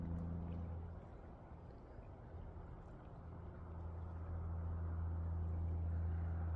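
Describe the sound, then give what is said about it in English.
A deep, steady rumble of heavy industrial trucks droning continuously in an industrial area, low and engine-like, swelling slightly toward the end with no voices present. “And that deep rumbling that you can probably hear right now, those are industrial trucks.”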